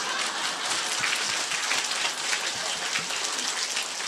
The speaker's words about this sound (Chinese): 你知道鼓掌叫互动，你听得懂吗？鼓掌就是吸收能量，一鼓掌浑身会热的，但十指连心的，尤其我们鼓的是好掌，对不对啊？